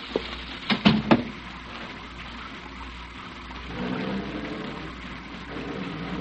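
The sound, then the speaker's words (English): Steady rain pours down in a continuous hiss, with a few brief thumps and knocks near the start before the downpour carries on alone. “Well, I think you better get out of the rain.”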